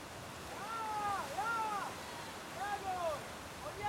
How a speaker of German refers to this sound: Junge Kanuten arbeiten sich durch die Wellen. Ein Trainer treibt sie an.